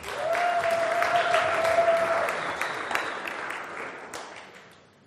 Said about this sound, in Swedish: Tack så mycket. Ge dem en applåd.